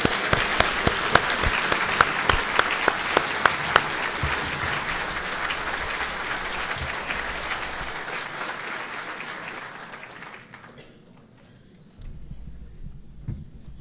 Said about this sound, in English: Now I know you'll all want to join me in an enthusiastic applause.